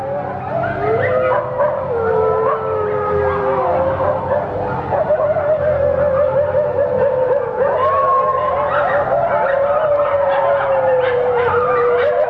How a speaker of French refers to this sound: Bon sang. Les chiens sont vraiment affolés.